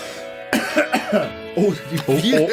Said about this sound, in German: Der … muss sich erstmal nochmal räuspern.